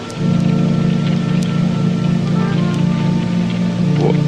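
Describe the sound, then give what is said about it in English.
Steady, continuous rain patters down throughout with no voices, a dense even hiss over a low, droning rumble, with a few faint drips standing out now and then. “It's still raining.”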